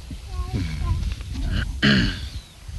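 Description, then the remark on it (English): A cow lets out a short, low moo, loud and throaty, amid the hollow background noise of a barn with other animal grunts and a voice murmuring. “Here's the cows here. We can see them from here.”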